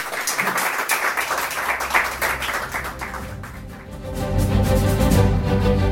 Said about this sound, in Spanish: Quiero agradeceros a todos mis alumnos que me aguantan y que sin ellos no soy nada. Muy bien, un aplauso para ellas. Muchas gracias.